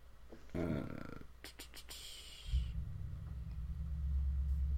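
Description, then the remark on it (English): A neighbor's loud car engine cranks with a short whirring and a few clicks, then catches and settles into a loud, deep rumbling idle that grows steadily heavier to the end. “My neighbor's just started up his loud-ass car.”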